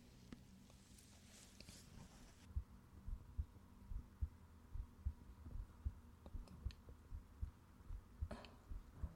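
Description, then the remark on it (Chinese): A steady, muffled heartbeat thumps at a relaxed, even pace, low, after a few seconds of soft rustling; a brief rustle returns near the end. “我听见你的心跳啦，这种感觉好奇妙。”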